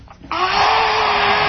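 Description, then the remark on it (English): A vacuum cleaner, used to clean up a work area, switches on after a brief moment and runs steadily, producing a loud, continuous whooshing roar with a low motor hum underneath. “Just vacuuming, making sure everything's just so.”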